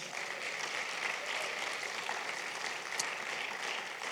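Steady audience applause for a member of the audio team, a dense crackle of many hands clapping at a fairly even level throughout, with no voices standing out above it.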